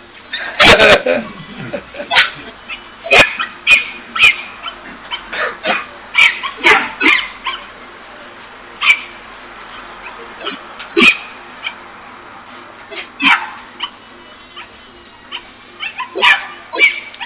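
A dog barks over and over in sharp, irregular, loud bursts, mixing deeper woofs with a few higher yips and whimpers.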